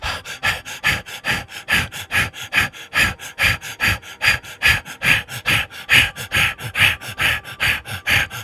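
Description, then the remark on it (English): Rapid, forceful breathing in and out during a breathing exercise, with a steady quick rhythm of around three sharp breaths per second that carries on without pause or talking. “Again, returning to the root and breathing in and out.”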